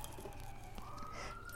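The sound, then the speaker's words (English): Fire truck sirens wail faintly as the fire trucks approach, a steady tone that sweeps upward in pitch, over a low rumbling background with no one talking. “And now we're hearing the fire trucks coming.”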